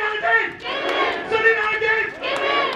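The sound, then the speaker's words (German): Several hundred workers from across the Stuttgart region shout in unison at a late-morning central union rally at auto supplier Mahle's main plant, a dense roar of many voices rising and falling in several sustained surges across a few seconds, loud and continuous, with no single voice standing out. “Mehrere hundert Beschäftigte haben sich hier am späten Vormittag versammelt. Aus der ganzen Region Stuttgart sind sie zur zentralen Kundgebung gekommen.”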